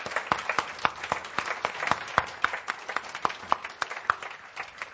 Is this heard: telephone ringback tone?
no